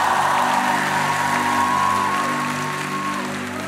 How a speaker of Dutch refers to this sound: Mag ik je bedanken? Zullen we even een groot applaus geven? Dank je wel.